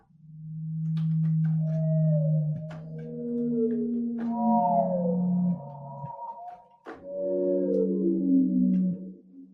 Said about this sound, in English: And then this is a blue whale.